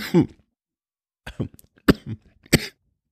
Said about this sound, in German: Das habe ich jetzt davon, wenn ich spotte. Dabei habe ich heute, glaube ich, noch gar nicht richtig gehustet.